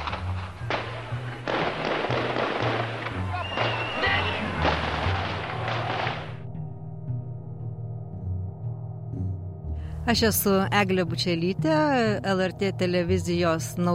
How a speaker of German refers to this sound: Sowjetische Kampfpanzer und Fallschirmjäger rücken gegen das Fernsehzentrum 5 Kilometer von der Stadtmitte entfernt vor. Es ist von Litauern umstellt, die es schützen wollen. Dann, gegen 0.30 Uhr, fallen die ersten Schüsse.